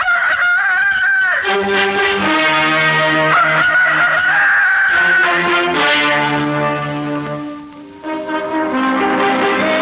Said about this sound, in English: I saw him with mine own eyes. Cockerel, rooster, chanticleer, morning's minstrel, fighter of darkness. I saw his wattle shaking like a flag, his tail feathers like an army with banners.